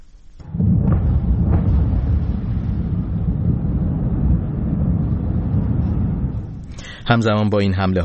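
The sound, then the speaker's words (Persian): A loud explosion erupts into a deep, rolling rumble that lasts several seconds before fading, followed at the end by a person starting to speak. “انفجار وحشتناکی بود.”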